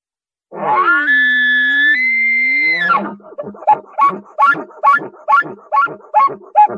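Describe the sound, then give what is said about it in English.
A high, drawn-out elk locator bugle blown on a bugle tube with a reed held in the mouth, its sound adjusted by tongue pressure, swells for a couple of seconds, then breaks into a quick string of about eight rhythmic grunting chuckles. Loud, with no talking. “I have a bugle tube and a reed. I stick the reed in my mouth and I can adjust the sound by my tongue pressure. I'm going to do a locator bugle.”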